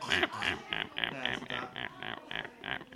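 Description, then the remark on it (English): A person imitates a duck with a quick series of soft, nasal quacks, about ten short bursts in steady rhythm, fairly quiet. “The duck's very calm and quiet. That's what ducks actually sound like.”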